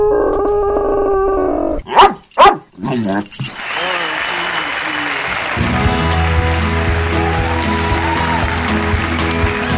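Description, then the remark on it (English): Radio Marty's dog, Sean, gives two or three sharp barks in quick succession, set against a hum of background sound that swells into a steady, busy wash once the barking stops. “It's time to lock your seat back, slat your tray tables, and listen as we take off on another 3D adventure in sound with Radio Marty and his lucky dog, Sean.”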